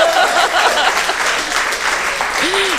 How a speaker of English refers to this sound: Applause will get you everywhere.